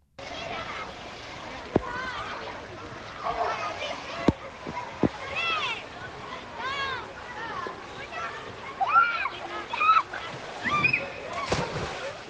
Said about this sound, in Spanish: Voces de chiquillería cayendo al agua. Sí, cayendo al agua. Esta grabación me la mandan dos niñas